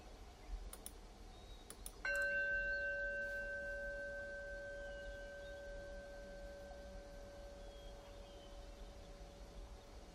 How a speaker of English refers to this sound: We're going to start today's meditation and end today's meditation with the sound of a bell.